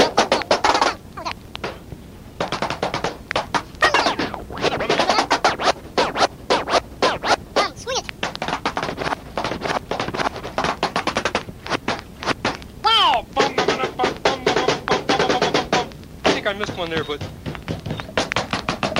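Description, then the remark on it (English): A fast, steady run of sharp knocks and taps as someone plays rhythms by knocking on a door continues throughout. The clatter is loud and busy, with brief vocal sounds breaking through now and then. “Gee, you know that groovy sound sort of sounds like somebody knocking on the door.”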